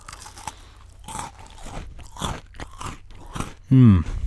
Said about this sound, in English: Here's the Oreo cookie on the microphone. Perfect. Take a bite. Oh yeah. That's delicious. Well, these Oreo cookie people know what they're doing. One more bite.